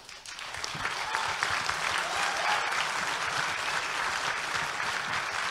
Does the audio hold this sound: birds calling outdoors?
no